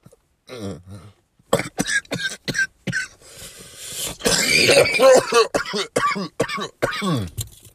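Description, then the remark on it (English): A harsh smoker's coughing fit: a rapid string of loud, rasping coughs with a strained, wheezy stretch in the middle and throaty hacks trailing off at the end. “I'm like, hey, when motherfuckers cough, you just bust out with that.”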